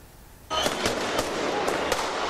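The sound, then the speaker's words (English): Fireworks burst in a rapid, irregular string of about five sharp, loud bangs over a constant roaring outdoor din at a street protest in Istanbul, Turkey, where demonstrators clash with riot police; the sound starts abruptly after a brief quiet moment. “Smoke from fireworks and tear gas fills the air as demonstrators and riot police battle it out on the streets of Istanbul.”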